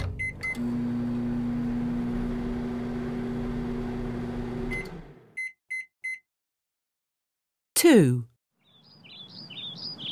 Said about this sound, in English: Kids, I'm putting popcorn in the microwave.